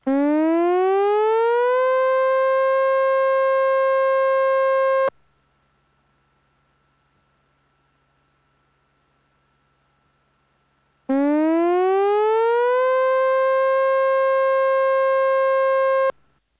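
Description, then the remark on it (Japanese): A loud tsunami warning siren wails twice as a tsunami warning is issued and people near the coast are told to evacuate to high ground, each blast rising in pitch before holding a steady tone for several seconds, with a long silent gap between them. “津波警報が発表されました。海岸付近の方は高台に避難してください。”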